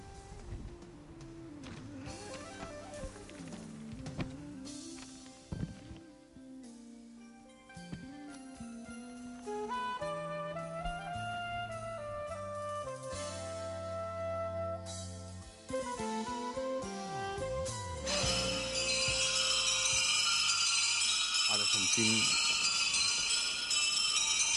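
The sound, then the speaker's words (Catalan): Church bells peal to mark the start of the Eucharist, in overlapping, ringing tones that shift in pitch. They grow fuller and louder until a dense, bright clangor fills the last few seconds. No voices are heard. “Ara sentint les campanes d'inici de l'Eucaristia.”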